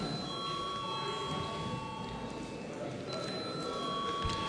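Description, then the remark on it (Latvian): A voting bell in the Latvian Saeima rings steadily for the whole stretch, calling a vote on a bill's second and final reading: a continuous bright metallic tone with a buzzing rattle, over a low murmur of voices in the chamber. “Paldies, lūdzu zvanu.”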